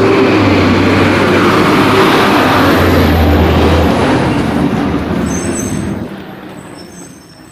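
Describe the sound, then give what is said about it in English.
A garbage truck rumbles loudly with a deep engine drone and hissing brakes, then pulls away and fades over the last seconds, leaving faint high chirps behind. “Oh, garbage truck.”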